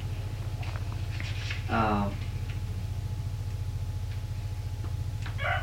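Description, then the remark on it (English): A steady, rapid ticking runs evenly through the whole stretch like a clock, with a brief voice sound breaking in near the middle and again at the very end. “What time does the clock say?”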